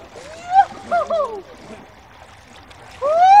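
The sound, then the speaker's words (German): Several voices yelp and squeal in short, rising bursts over a low wash of moving water, ending with a louder drawn-out cry as people who have just changed clothes go straight into cold lake water. “Die Leute haben einfach sich umgezogen und dann ging es auch jetzt schon direkt ab ins Wasser.”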